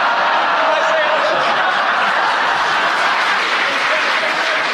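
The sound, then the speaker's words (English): A crowd applauds a panellist's incorrect challenge, clapping steadily and loudly for about five seconds, a dense, even wash mixed with scattered laughter and chuckles. “you're about the only person to get rounds of applause when they make a mistake.”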